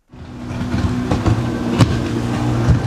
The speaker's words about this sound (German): Ein schmales, himmelblaues Motorboot braust durch die Wellen. Ein Wassertaxi auf dem Weg von dem winzigen Flughafen von Lamu zu den Hotels im Dorf Scheller auf der Hauptinsel des Archipels.